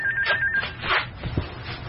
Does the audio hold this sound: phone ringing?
yes